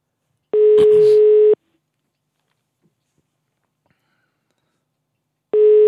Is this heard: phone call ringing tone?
yes